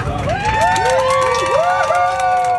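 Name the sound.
people cheering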